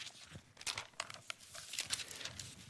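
Thin Bible pages being turned to open to Genesis chapter 1, a quiet run of papery rustles and several crisp crinkling flicks over a few seconds, with no talking.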